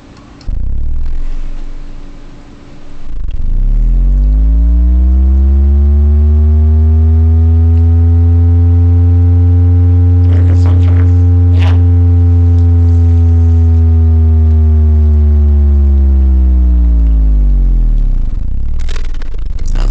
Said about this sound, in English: Inventor Motorcycle Rev. Sounds like a real motorcycle.